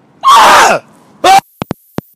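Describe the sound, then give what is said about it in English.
A man's voice imitates an agonized wailing scream: one long, loud, strained cry, then a shorter burst, followed by a few faint sharp taps. “A scream, a sound that is of agony.”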